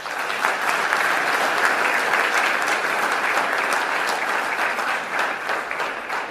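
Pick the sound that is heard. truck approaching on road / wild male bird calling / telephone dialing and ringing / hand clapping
hand clapping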